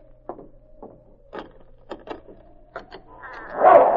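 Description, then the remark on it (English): A dog named King, Sergeant Preston's dog, lets out a run of short, muffled barks at uneven intervals over a low steady hum, ending in a louder, rougher burst of noise. “Quiet, King. Steady, boy.”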